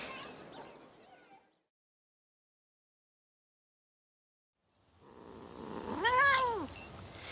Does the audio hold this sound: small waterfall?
no